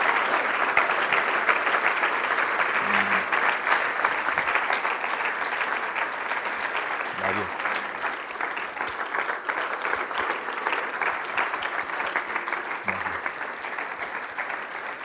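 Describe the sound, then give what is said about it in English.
Steady, dense audience applause thanking a speaker who has just shared God's word, lasting the whole stretch, a continuous crackle of many hands clapping at an even loudness with no voices standing out. “Boy, can we just give him a round of applause and thanks?”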